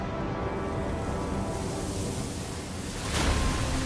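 A steady, dense roar of rushing water from a huge waterfall pouring in a forest and extinguishing flames, with a brief surge of hiss near the end. No voices are heard.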